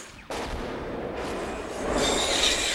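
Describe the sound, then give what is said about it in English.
The Predator's cannon fires blasts as a scarred alien escapes. The blasts erupt suddenly into a loud, sustained roar of noise that swells even louder toward the end, with no voices present. “The scarred alien heeds the Queen's call and escapes the Predator's cannon fire.”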